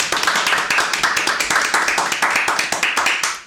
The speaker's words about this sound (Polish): Myślę, że nasz realizator musi być teraz gotowy na brawa, które przekazujemy za pomocą mikrofonów Wam wszystkim.